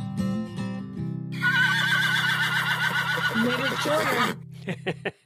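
A horse lets out a long, loud whinny, starting with a low throaty rumble and rising into a high, shaky, trembling neigh before trailing off into a few short snorts.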